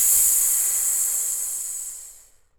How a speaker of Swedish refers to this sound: Och den övning som vi ska göra nu, den går till så här att vi andas ut all luft på ett.